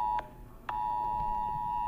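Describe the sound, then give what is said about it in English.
A phone's emergency alert beeps loudly during an alert test: a shrill, steady electronic tone that cuts out for a moment, then resumes and holds without pause. No one speaks. “My phone's making noise again.”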